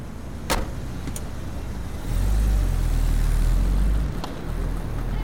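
car driving away

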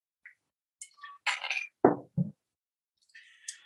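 glasses clinking

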